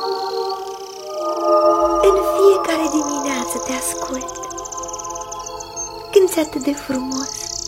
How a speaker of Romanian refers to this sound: Tu zbori din creangă în creangă, apoi vii la mine. Hai, cântă, pasăre, cântă. Nu știu care-i numele tău. Ai aripioare galbene tivite cu arnici roșu, ochii rotunzi.